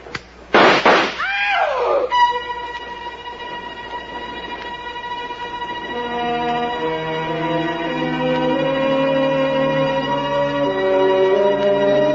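Gunshots fired in the dark ring out in a sharp, loud burst at the start, then give way to a steady, layered mechanical drone with sustained tones that swell slightly louder over time. No one speaks.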